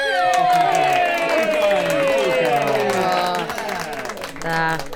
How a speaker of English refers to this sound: Cheers. Applause.